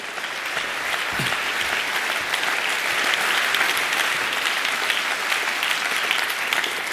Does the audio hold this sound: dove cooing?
no